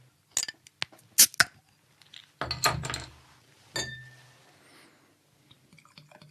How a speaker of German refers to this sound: Ja, darauf, denke ich, sollten wir jetzt mal in aller Ruhe anstoßen.